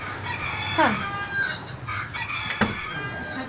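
A rooster-crow door alarm blares as the door to a family's room in a homeless shelter is opened, a bright rising-and-falling call over steady room noise, followed by a sharp click partway through.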